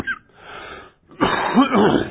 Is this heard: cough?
yes